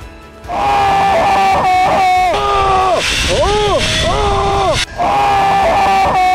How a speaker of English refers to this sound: Dad, next time you should not be screaming in your normal voice. I can hear you.